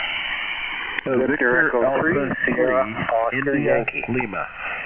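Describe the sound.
Static-filled radio hiss gives way to a jumble of several stations checking in to a radio net in Ontario, transmitting at once, their tinny, narrowband speech piling up over each other into an unintelligible clash before tailing off.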